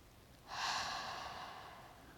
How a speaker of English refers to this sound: take a deep breath when you get the chance. It's really nice just to step back and try to come back to the present and getting out of your head and just breathing. One more.